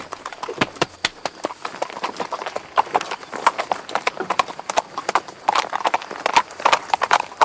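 horse hooves clip-clopping

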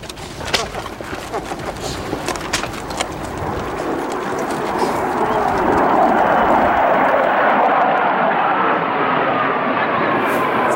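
military aircraft flying overhead

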